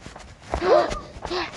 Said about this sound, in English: I am hearing footsteps.